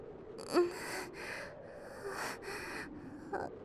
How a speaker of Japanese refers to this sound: 興奮して息遣いもまるで獣みたい。